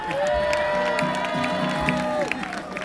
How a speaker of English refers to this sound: Well, Mark's not here for you to applaud to, so applaud to that lady right there. That's your sister.